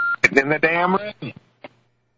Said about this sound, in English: Yep, I heard the beep, right? You guys heard it? Yep. Okay, good.